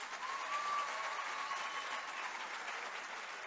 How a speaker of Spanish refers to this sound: Esta buena nueva bien merece un fuerte aplauso.